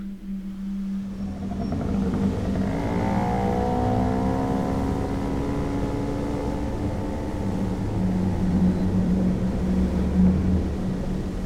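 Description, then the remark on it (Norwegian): A small moped engine drones steadily, its pitch rising and wavering as it revs and holds while being ridden home on a cold autumn evening in Halden. No voices. “Haldenkvelden har et kaldt høstdrag i luft, og da Per kjører hjem på mopeden sin.”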